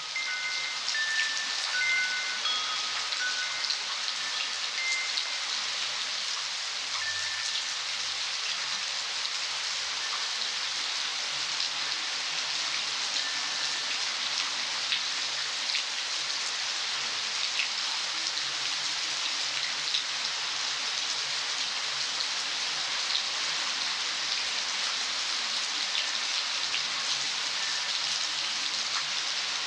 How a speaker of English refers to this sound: We leave you this week in A Midwinter Night's Rain. … recorded … for a CD he calls ….